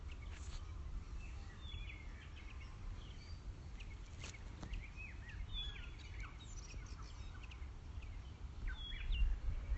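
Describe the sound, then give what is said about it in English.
Several birds chirp and tweet in scattered short calls across the whole stretch, soft, outdoors near Mount Wellington on a beautiful day, over a steady low outdoor rumble like faint wind or traffic. “Lots of pretty happy birds around too.”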